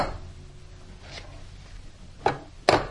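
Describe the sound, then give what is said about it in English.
A toy hammer bangs on a toy ball: a soft knock, then two sharper, louder hollow hits close together near the end, over quiet background noise with no talking. “Can you bang with the hammer? Right on the ball, that's right.”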